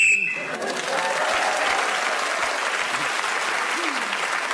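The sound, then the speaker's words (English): A short, shrill whistle blast sounds right at the start, blown to end Paul Merton's turn as he gains an extra point, then a large audience bursts into loud, sustained applause that carries on steadily to the end. “So Paul Merton was then speaking the whistle when gained that extra point.”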